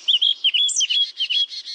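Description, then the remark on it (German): A Eurasian blackcap sings a rapid, fluting warble of bright, high notes, clear, with no voices or other sounds around it. “Das war eine Mönchsgrasmücke.”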